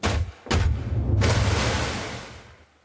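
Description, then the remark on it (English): A layered weapon sound effect: two sharp, loud impacts with a deep low-end thump, then a broad whooshing swell that ramps up and slowly fades, built from a leather jacket flicked in the hand and snowballs slapped against things. “I used like leather jacket sounds, so basically flicking it in my hand. And then I got a bunch of snowballs when it was snowing and kind of slapped them against stuff to kind of exaggerate this.”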